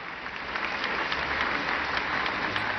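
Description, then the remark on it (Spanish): Steady, dense applause from a group of people, clapping continuously at an even level for a few seconds with no voices over it. “No me diste aplauso a mí, pero te lo diste a ti mismo.”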